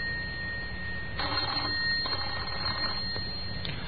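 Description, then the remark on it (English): A telephone bell rings in an empty house in Oxford on a bank holiday Sunday evening, in two bright, rattling bursts, each under a second long, over a low steady hum, with no voices. “Whoever it was kept trying, but only the bell sounded in the empty house.”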